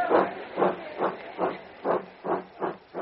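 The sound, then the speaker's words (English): A steam locomotive chuffs steadily as it pulls away from a station, with about seven breathy exhaust bursts in an even rhythm. It is fairly loud, with no voices. “He is about to ask what the news is when the train moves off.”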